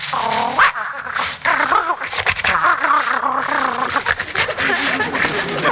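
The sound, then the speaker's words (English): A person vocally imitates a playful dog, with a lively, continuous run of yips, whines and little barks that rise and fall in pitch, fairly loud. “And when he feels like playing, he'll sound like this.”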